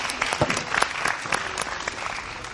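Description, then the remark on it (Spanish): An audience claps steadily for a member of the audience, a dense patter of many hands slapping together at an even, fairly loud level for a couple of seconds with no one speaking. “Tenemos un héroe entre el público, ¿eh? ¡Un aplauso!”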